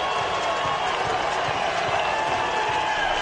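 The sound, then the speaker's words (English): Texas fans and players at the Dish cheer in a loud, continuous roar on learning TCU has fallen to Kansas State, giving Texas a chance to win the Big 12; a dense wash of many voices holds steady for the full few seconds without letting up. “Here's how it sounded at the dish and on LHN when Texas fans and the players found out that they have a chance to win the Big 12.”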